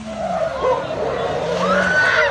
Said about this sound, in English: The sound of young kids speeding through the streets in stolen cars is something Derby residents are used to.